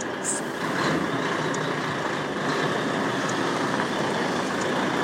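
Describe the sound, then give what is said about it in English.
A heavy lorry with 12 wheels rumbles by, its engine and road roar holding a steady, loud level for the whole stretch, with a faint high whine on top and no talking. “You're looking to see another lorry.”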